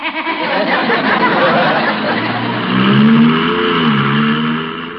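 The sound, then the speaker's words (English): A car with no gear shift revs loudly, its pitch climbing as it accelerates and pulls away, with faint background chatter beneath the steady engine roar. “Oh, what an adorable car. Look, no shift.”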